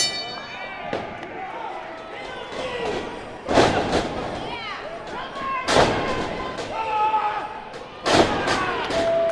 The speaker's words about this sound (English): After subjecting each other to an onslaught of kinetic pulls and body slams, the two embraced each other at the end of the match.